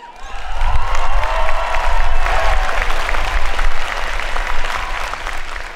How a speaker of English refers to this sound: You know, I'm feeling good today because this is the first time I've been in front of a live audience, hearing live applause since last February, 14 months ago.